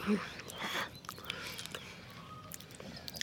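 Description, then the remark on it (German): A small blue-furred creature sitting on a compost heap chews and munches quietly, with irregular soft crunchy and wet mouth sounds over about three seconds and no clear speech. “Das Wesen kaut und mampft, sieht aber alles andere als zufrieden aus.”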